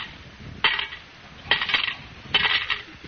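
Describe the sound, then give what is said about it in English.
In the radio comedy Our Miss Brooks, 40 cents in coins are dropped into a collection kitty in three bright metallic bursts, each a jingling clatter of several coins landing, spaced about a second apart with quiet between. “You put 40 in the kitty.”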